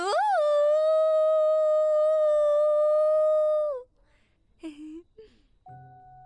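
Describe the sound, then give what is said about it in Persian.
A person lets out a long, loud howl, howling for Bigfoot, rising sharply then holding steady for several seconds before dropping off, followed by a few brief, quieter sounds. “نه بابا، اون من بودم، داشتم واسه پاگنده زوزه میکشیدم مثل همیشم.”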